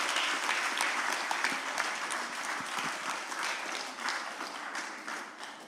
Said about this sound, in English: Let's just give them all a big round of applause.